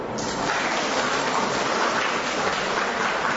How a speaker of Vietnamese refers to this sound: Thưa anh chị em, trời lại đổ cơn mưa, chúng ta tạ ơn Chúa vì mình luôn luôn tỉnh thức, mưa nắng mình còn không biết được lúc nào mưa lúc nào nắng, mà mình đang là ngồi như vậy trời đổ cơn mưa ai biết được, phải không?